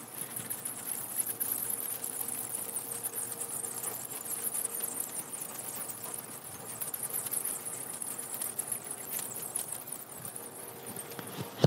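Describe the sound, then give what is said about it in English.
A dense, steady chorus of high-pitched squeaks and chirps from many small animals, overlapping continuously like a crowd of mice squeaking, with faint rustling and tapping underneath and no talking. “Sound a little bit like a bunch of mice squeaking.”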